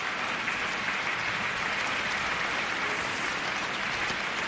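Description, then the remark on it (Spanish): A large concert audience applauds the musicians of the OBC orchestra and conductor Josep Cavallé Domènech, a dense, even wash of clapping that holds at a constant level throughout with no voices over it. “Siguen recogiendo aplausos los músicos de la OBC y Josep Cavallé Domènech, que recordemos en las primeras etapas de su actividad fue músico precisamente de la plantilla de esta orquesta,”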